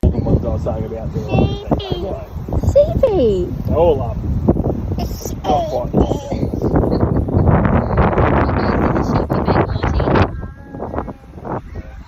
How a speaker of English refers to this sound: Again, it's quite windy.